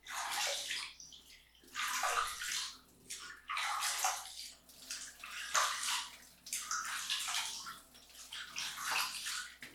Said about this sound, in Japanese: じゃあ体をゴシゴシしてあげますね。